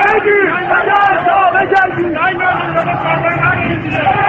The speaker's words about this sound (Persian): جمعیت عصبانی شعارهای تند می‌دهند.